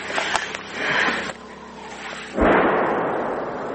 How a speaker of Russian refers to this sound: На пушку схоже. І це зараз наша пушка працює.